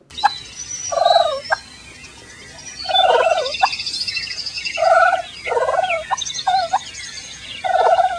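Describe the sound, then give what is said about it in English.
A turkey gobbles and purrs in a series of about five rattling bursts, fairly loud, with short quiet gaps between them and faint higher bird chirps in the background. “It is, in fact, a turkey.”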